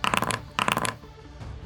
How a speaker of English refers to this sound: Excuse me, that was a lot of dice.